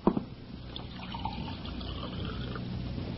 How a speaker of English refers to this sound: Pour me a glass of water from that carafe so I can bring him to.